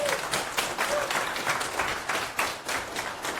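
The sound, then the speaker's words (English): Audience applause in a community room as a formal welcome for a speaker, a dense, steady wash of many hands clapping with no pauses, holding at an even level throughout. “And then we're going to do the traditional, it's 4 minutes past, instead of it's 5 minutes past, we will do a formal welcome with applause and invite our speaker to continue the remarks.”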